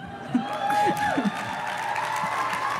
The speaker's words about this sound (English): Please, I appreciate it, but you have to save your hands. You have a lot of clapping to do today.